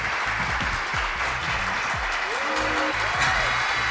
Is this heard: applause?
yes